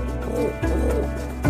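pigeon cooing

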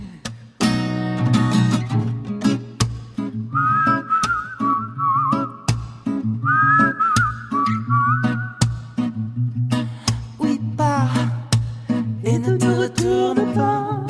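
whistled melody

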